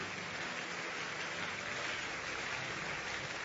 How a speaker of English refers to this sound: Thank you. Keep clapping until they leave.